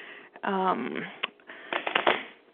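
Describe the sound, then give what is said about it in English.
A deck of cards being shuffled at a kitchen table, the third shuffle before a card is drawn, with quick papery flutters and a crackling riffle burst near the end, following a brief voiced sound at the start. “This is the third shuffle. I'll bet you can hear it.”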